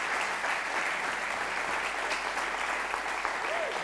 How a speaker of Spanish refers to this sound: Un aplausito cortito.